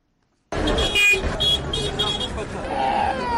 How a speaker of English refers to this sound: It's around 8 p.m. at the Nyabugogo National Bus Station.